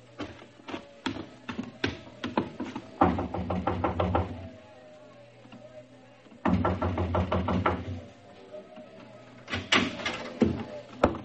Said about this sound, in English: Just knock on the door of the truck.